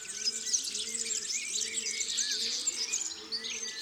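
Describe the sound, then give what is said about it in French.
A serin perched on a TV antenna pours out a high, grating, very rapid song in long unbroken phrases, steady, with a faint low hum underneath. “C'est un chant aigu, grinçant, très rapide, avec des strophes assez longues.”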